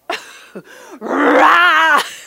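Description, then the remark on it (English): A man's voice mimics a lion's roar, starting with a couple of short gruff bursts and then swelling into one long, loud, wavering growl before cutting off. “You have to roar it.”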